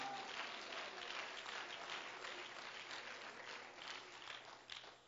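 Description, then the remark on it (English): An audience claps their hands to show they believe in a living God, a dense, sustained burst of applause that fills the space steadily for several seconds before starting to thin out at the end. “Clap your hands if you believe in a living God.”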